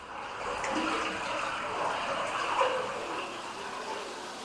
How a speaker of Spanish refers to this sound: Soy el goteo en las cuevas.